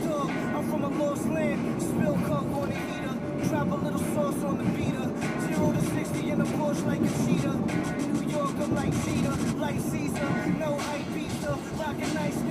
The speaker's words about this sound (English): Man, I should drive in this late all the time. There's no traffic. Really just fucking cruise through this shit. Roll up Broadway like nothing.